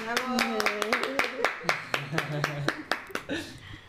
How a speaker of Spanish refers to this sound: démosle la bienvenida y un fuerte aplauso a nuestra invitada